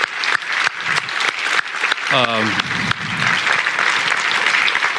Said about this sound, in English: I also wanted to just say, as we're wrapping up, I just want everybody to give a round of applause to our conference team, my lovely wife, most of all.